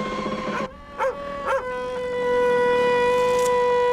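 Sea ice under pressure grinds against the hull of the ship Tara in a shrill, sustained squeal of steady high tones, broken by two short, harsh hammering, crunching bursts before the whine swells louder. No one speaks.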